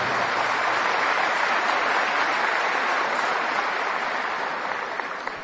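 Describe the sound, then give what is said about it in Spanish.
An audience applauds, at the host's request, a married couple of 43 years: a dense wash of clapping that holds at an even volume and then begins to taper off toward the end, with no one speaking over it. “Bueno, gracias, el aplauso.”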